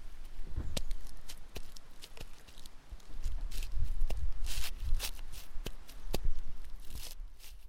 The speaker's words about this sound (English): crunching the leaves.